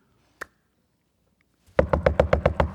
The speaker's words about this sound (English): Verse 13, when he knocked at the door of the gate